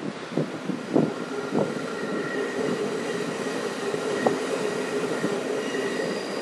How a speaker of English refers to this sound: The RER, hang on a sec. No, that's Metro Line 2, I believe. Oh, right. The second oldest line, would you believe it?